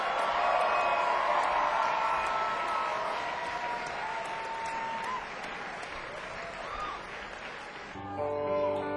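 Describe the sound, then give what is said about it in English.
An audience claps steadily for the band in a thick, continuous wash of applause, with a few whoops and scattered cheers rising above it. The applause stays loud throughout, then gives way to music at the very end. “I'll give them a round of applause.”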